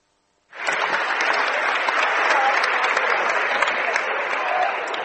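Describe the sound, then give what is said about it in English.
A crowd of about 1,600 to 1,700 at an evening game at Springfield High School breaks into sustained applause after a brief silence, a dense, steady wash of clapping that stays loud and even, with a few faint voices mixed in. “Oh, we've got an excellent crowd on hand for this game at Springfield High School tonight.”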